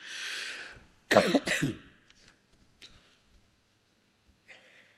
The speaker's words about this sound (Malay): Tak mahu tuan-tuan, atas ketidakselesaan batuk dia ni. Batuk-batuk mau duk cancel kuliah malam ni. Batuk teruk tadi nak main tadi, dia batuk sampai bergoncang dada.